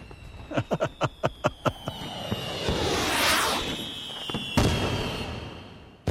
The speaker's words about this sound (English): Fireworks have been a part of the 4th of July since the very beginning, and it's safe to say that in general, the rule has been the bigger the better.